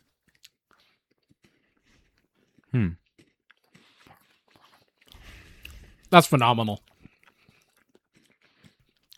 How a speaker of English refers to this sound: What is so impressive about Kit Kats, truly, is that like you get the wafer and you get the crunch from that,